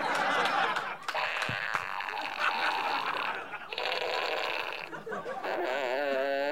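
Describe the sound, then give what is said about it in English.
A novelty sound-effects fart fanfare item from a prize bag: a loud, buzzy, blaring run of wavering tones that plays continuously for several seconds and ends in a fast wobbling warble. “It's a sound effects fart fanfare.”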